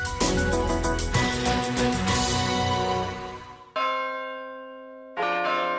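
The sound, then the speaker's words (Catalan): Church bells ring out loudly at midday for the Angelus in a dense, overlapping peal, then a single clear bell strike rings and decays before another loud strike cuts in, with rich sustained overtones and no voices. “Empresa dedicada a la foneria de campanes, la instal·lació de rellotges monumentals i la sonorització d'esglésies”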